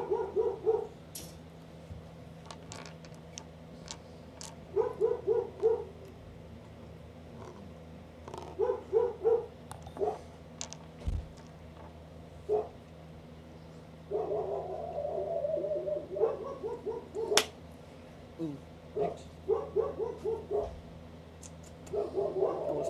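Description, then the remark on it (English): Dogs bark repeatedly in quick clustered bursts, some yips and whines mixed in, over a steady low hum, with pauses between volleys. “These dogs are actually insane.”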